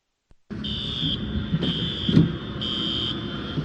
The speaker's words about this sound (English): The sound of car alarms triggered by the intense storm was captured by a weather tracker